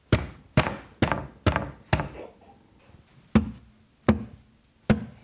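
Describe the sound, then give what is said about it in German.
A hand slaps a window eight times, five in a quick run and then three more spaced out, each a sharp smack with a hollow, boomy ring fading behind it. “Ich habe gerade auf das Fenster gepatscht und es hört sich irgendwie hohl an.”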